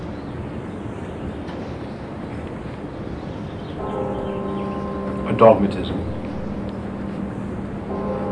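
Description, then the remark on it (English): A bell rings behind a speaking voice, its steady ringing tone swelling in partway through and hanging on for several seconds before sounding again at the end, with a brief louder bump in the middle. “I love saying dogmatism having a bell ring behind me.”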